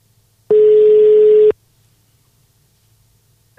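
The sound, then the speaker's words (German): A single steady ringing tone of a call placed from a mobile phone sounds for about a second, loud with a flat pitch, then cuts off into near silence; a faint voice begins right at the end. “rufen ihn einfach an.”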